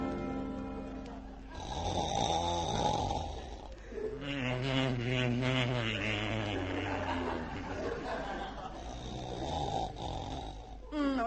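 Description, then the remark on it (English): A person snores loudly while asleep, a string of rough, rattling breaths with throaty, drawn-out snorts that swell and fade over several seconds, with no talking. “please turn on your side and stop snoring.”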